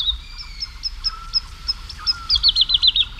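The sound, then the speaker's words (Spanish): A woodlark sings clear, fluty notes repeated at a steady pace, then breaks into a faster run of rolling notes while flying high and fluttering in the sky at dawn over the fields of Daimiel, around 5 a.m. under a full moon, against a quiet background of little owls, tawny owls and nightjars. “una noche de luna llena, en el cielo, colgada en el aire, hay cantando una totobía, la alondra de bosque.”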